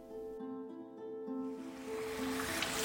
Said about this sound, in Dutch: Nou, we lopen net langs een soort mini-waterval met een gat erin. Maar je denkt, oh, gewoon een mini-waterval met een heel soort donker gras erin. Maar nee, want ik zag Danger Old Mine.